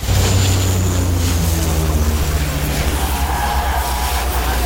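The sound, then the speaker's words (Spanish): A loud, continuous engine roar with rushing, wind-like noise at a wildfire, recorded alongside firefighters as water-dropping aircraft pour water over them, heavy low rumble filling the whole stretch with no clear voices. “Sí, esa es una secuencia de un incendio de hace unos años, y estamos con los bomberos, con las focas que nos echan el agua encima.”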